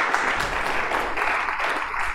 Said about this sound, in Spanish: Así que, mis amables hermanos, denle un fuerte aplauso al Señor en acción de gracias.